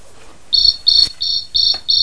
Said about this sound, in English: And that's another cricket. It's very loud. Is it very loud?